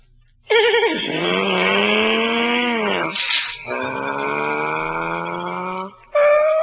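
Loud car brakes squeal in long, grinding pulls, the pitch wavering and sagging, with a short final squeak as the car comes to a halt. No one speaks.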